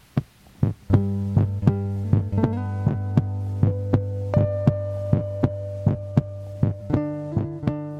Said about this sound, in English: So then I listened to the next song, which was the heartbeat song.